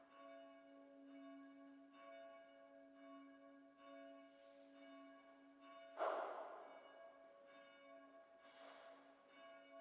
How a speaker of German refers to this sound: In Erinnerung an sie hören wir die Glocke unserer Stadtkirche